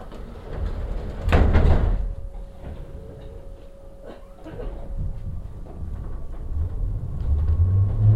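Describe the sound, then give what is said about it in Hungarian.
Train doors slide shut with a loud rushing thud, followed by a steady warning tone over the low rumble of a metro car that builds as the train starts moving. “Kiáltanak, az ajtók zárulnak.”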